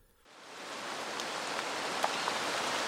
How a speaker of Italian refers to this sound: Piove a dirotto invece quando raggiungiamo Colonia